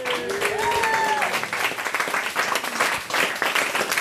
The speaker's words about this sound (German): mach doch einen riesen Applaus für dich.